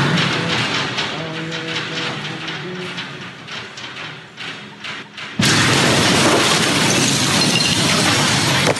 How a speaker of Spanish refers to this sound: 4 hospitales resultaron dañados precisamente por esta explosión. Aquí las imágenes que vienen surgiendo de esta tragedia, impresionantes las imágenes.